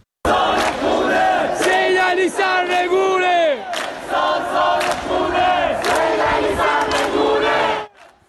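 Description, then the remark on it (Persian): A large crowd of residents of Ekbatan township in Tehran chants slogans against the ruling establishment at night, rising and falling in rhythmic, sustained shouted phrases with a few sharp bursts, loud throughout before cutting off abruptly near the end. “معترضانی که در شهرک اکباتان به یکی از حلقه های اصلی اعتراضات در ماهای گذشته تبدیل شده بودند و حضور شبانه مردم این شهرک و شعار علیه حاکمیت به یکی از نقاط اصلی درگیری نیروهای امنیتی و مردم معترض در تهران تبدیل شده بود.”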